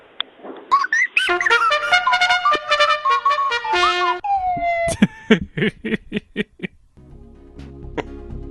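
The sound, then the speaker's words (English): A bugle played down a phone line to a person who answered the call: several loud, sustained brassy notes that rise and waver, then a run of short, sharp staccato blasts, with no one talking. “She was enthused by the bugling.”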